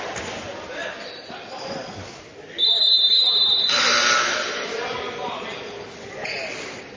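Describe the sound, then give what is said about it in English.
A referee's whistle gives one shrill, steady blast lasting about a second, cutting through the murmur of a basketball crowd and the thump of bouncing balls. “And we're going to get a whistle.”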